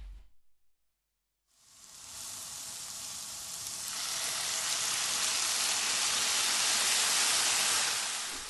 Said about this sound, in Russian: Продолжайте жарить, пока вся вода, содержащаяся в соевом соусе, не испарится. В этот момент вам может показаться, что морковь вот-вот начнет пригорать.